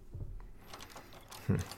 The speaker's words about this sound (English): He locked it? Hey, open this door. I know you're in there.